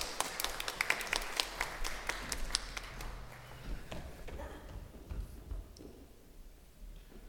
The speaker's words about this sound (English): Thank you both. A wee round of applause for.